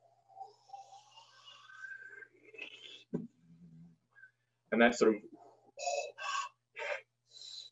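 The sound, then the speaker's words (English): A voice imitates a DJ filter sweep: a breathy, hissing whoosh that rises steadily in pitch for about three seconds, followed by a brief pause and a few spoken words. “That's roughly, and I'll show you in the software, it's a pretty good mimic of filtered pink noise, you know, band limited to 250-ish, 500-ish, 1K-ish, 2K-ish, 4K-ish.”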